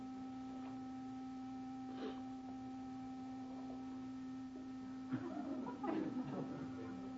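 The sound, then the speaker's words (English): A steady, unbroken electronic tone drones through the whole clip like an alarm clock buzzing, with a few soft rustling bumps near the end and no one speaking. “Is that an alarm clock?”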